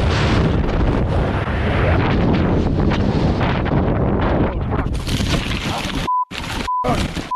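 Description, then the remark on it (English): A loud, continuous roaring rush of a small Taylorcraft BL-64 aircraft plunging down after engine failure and crashing, giving way to harsh bursts of static broken by abrupt cutouts and short, steady electronic beeps. “And then engine failure happened and he took it down and crashed it.”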